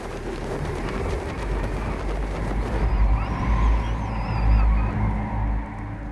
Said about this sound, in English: Jess's face crumples with fear as the wind begins to whip through her long dark hair. Elliot, Alma, Jess, and the two boys stop and crouch as the gust sweeps over them, lashing the long grass around their feet.